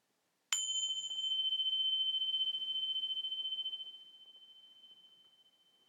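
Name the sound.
meditation bell ringing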